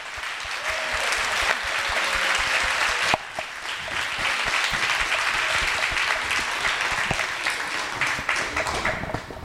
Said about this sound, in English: Can we just give them one more round of applause? That was amazing!